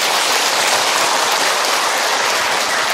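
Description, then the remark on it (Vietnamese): A crowd claps continuously to welcome a Buddhist nun lecturer, a dense, steady wash of many hands that stays loud and even from start to finish, with no voices over it. “Vậy quý vị cho một tràng pháo tay.”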